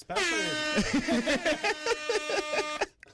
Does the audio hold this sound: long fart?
no